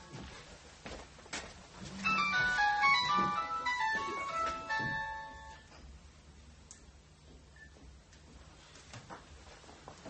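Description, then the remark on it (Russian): A mobile phone rings with a bright, electronic ringtone melody of quick stepping notes lasting a few seconds, then cuts off, leaving faint rustling and low background noise. “Сейчас, может быть, мы выключим телефон, чтобы он нам не мешал.”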